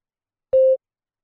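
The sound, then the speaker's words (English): A single electronic beep in a spoken test, signaling test takers to begin responding, steady and moderately loud, holding one pitch for about a quarter second after a sharp onset, then cutting off into silence. “For each question, begin responding immediately after you hear a beep.”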